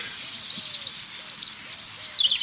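Birds sing outdoors in a steady chorus of high, bright chirps and twittering trills, with a soft, repeated lower call rising and falling beneath them; no voices are heard.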